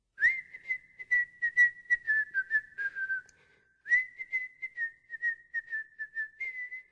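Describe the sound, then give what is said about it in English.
A bright, steady whistled happy bear folk tune plays alone and clear, in two lilting phrases separated by a brief pause, the pitch gently rising and falling in a cheerful rhythm. “Prince Andu set off across the desert, whistling a happy bear folk tune.”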